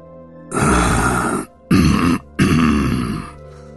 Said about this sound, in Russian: Вдруг послышалось покряхтывание. Скрипя узловатыми ногами, показались громадные древы, трибор и ясень-бор.